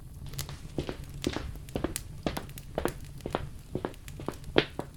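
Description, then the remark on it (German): Steady footsteps of someone getting up and walking to their father in the kitchen, at an even pace, about two steps a second, each one a crisp, slightly crunchy scuff over a faint low hum, with no voices. “Du stehst auf und läufst zu ihm.”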